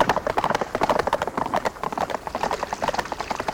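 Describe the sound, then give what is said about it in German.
Rapid, overlapping hoofbeats of several horses running toward a spring ahead, a dense clattering rhythm of sharp clip-clops that stays loud throughout, with no talking. “Hey, was ist denn mit den Pferden los? Ah, sie wittern Wasser.”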